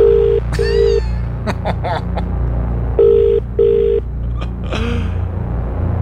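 A phone's ringback tone sounds twice in a double-burst pattern, steady and tinny, as a radio host calls a prize winner who does not pick up, over a low rumbling background and a few brief vocal sounds in between.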